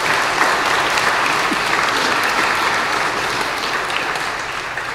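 An audience applauds steadily for five seconds, a dense wash of many hands clapping at an even, loud level throughout, with no voices standing out.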